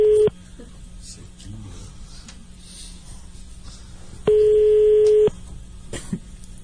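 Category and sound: signal or alarm, telephone busy tone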